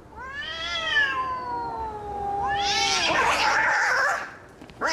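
A cat lets out a long, drawn-out meow that wavers and falls in pitch, then breaks into a harsh, raspy yowl, loud, with no one talking.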